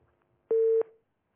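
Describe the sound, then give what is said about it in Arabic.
A single short, loud telephone line tone, a steady electronic beep lasting under half a second, heard alone after a call drops, fading out quickly with no voices. “انقطع الاتصال، عليها ان تعاود الاتصال مره ثانيه.”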